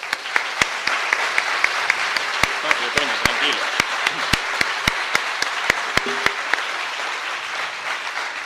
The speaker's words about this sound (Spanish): Estos amigos laredanos sacrifican sus horas de descanso por trabajar en las carrozas. Un aplauso para ellos.